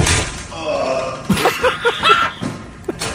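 A person walking into work in the morning backs into the sharp end of an open door with a sharp thud, followed by a few short pained vocal sounds and a second fainter knock near the end.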